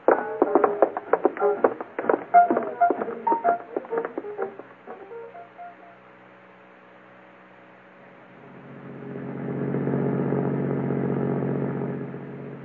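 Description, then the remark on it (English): A sheriff's car being started and driven off: a burst of rattling mechanical clatter, then a low steady hum, before a deep engine rumble swells up, holds, and eases off as the car pulls away. No voices. “Get the car started.”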